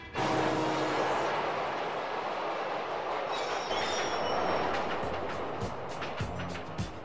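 A New York subway train rumbles steadily and loudly past, wheels clattering and squealing on the rails, with a dense wash of city noise and cars throughout and no voices.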